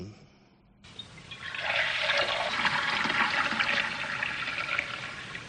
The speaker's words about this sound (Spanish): Esto puede ser alguien que está echando un cubo de agua en algún sitio.